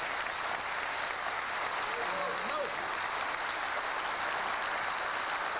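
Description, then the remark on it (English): An evening audience applauds steadily for dedicated young men and women who gave their time and resources, a dense wash of many hands clapping at even loudness for the whole stretch, with a faint voice briefly surfacing underneath midway. “And I think they're worthy of your applause tonight.”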